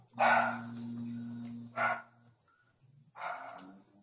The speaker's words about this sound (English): Sounds like a big German Shepherd in the background. I'm going to say, someone's got a dog. It's my dog. So okay. In the grass and, oh, geez. And I was obviously being facetious. That doesn't sound like a German Shepherd bark at all.